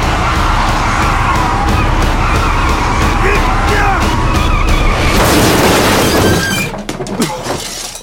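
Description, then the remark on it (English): A car (Mother Lode) on a highway after dark roars with a rising tire skid, then a loud crunching, shattering impact about five seconds in as it hits a buck deer whose antlers get tangled in the grill, followed by debris and a quick fade. “There was no steam rising up out of the engine compartment, so there was a good chance the light housing and fender had taken the brunt of the collision.”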